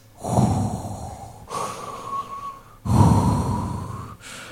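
Slow, deep breaths drawn through a scuba regulator by a diver underwater in a shark cage: a loud, rasping hiss alternating with a thinner whistling tone, about two full inhale-exhale cycles in a steady, mechanical rhythm, with no voices.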